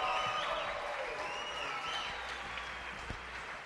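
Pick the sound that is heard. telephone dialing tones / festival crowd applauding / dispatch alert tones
festival crowd applauding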